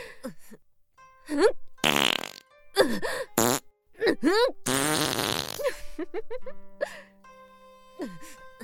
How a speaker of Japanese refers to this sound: さすがにここまでおならぶちまけたら、他の村人も匂いで気づいちゃうかしら。